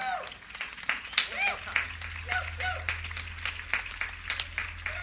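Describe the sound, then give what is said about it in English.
An audience applauds veterans steadily for several seconds, a dense patter of many hands clapping with rising cheers and whistles mixed in over a low, constant hum. “Stand up one more time and let's give all of them a big hand.”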